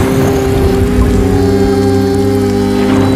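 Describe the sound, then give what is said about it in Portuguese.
A loud, deep rumble of thunder rolls on steadily for a few seconds, heavy and low with a droning hum running through it, and no voices. “Um dia veio o trovão.”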